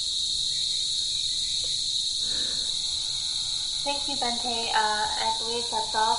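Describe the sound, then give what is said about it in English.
A steady, shrill drone of cicadas in the forest outside fills the whole recording without pause, loud and continuous, with a person's voice speaking briefly over it toward the end. “So actually, these days I am hearing a lot of noise coming from the cicadas, so you can probably enjoy it.”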